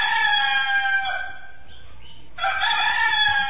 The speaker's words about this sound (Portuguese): e eu acho que está na hora das autoridades acordar mesmo, pôr um galo pra cantar no ouvido deles.